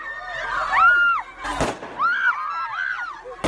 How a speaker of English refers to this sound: That's why the women took to the streets. But as they shouted slogans demanding work, bread and justice, Taliban guards attacked them with water cannon and stun guns.